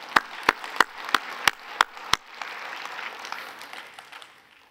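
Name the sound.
audience clapping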